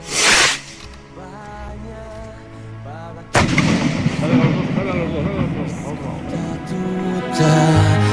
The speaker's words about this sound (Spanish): Lanzamiento de cohetes, llamada a la misa,